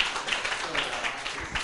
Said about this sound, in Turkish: Alkışlar gönüllerimiz için bence.